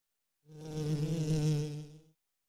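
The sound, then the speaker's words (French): A bee buzzes steadily in front of Mireille's nose for under two seconds, a droning hum with a strong low pitch and rich overtones that swells slightly, then stops abruptly. “L'abeille est devant le nez de Mireille.”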